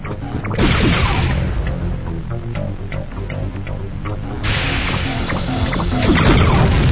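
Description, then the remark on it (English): Loud, busy video game sound effects: the player's craft crashing into trees with repeated smashing thwacks and swooshing noise bursts, building near the start and again toward the end, with no speech. “I crashed into the trees there.”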